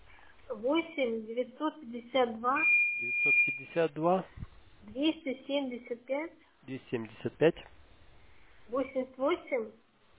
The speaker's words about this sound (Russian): еще у нас вот пикает на кухне, в комнате, знаете, как будто типа сигнализация